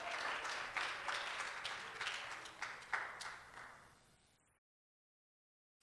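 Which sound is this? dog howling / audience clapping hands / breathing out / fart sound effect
audience clapping hands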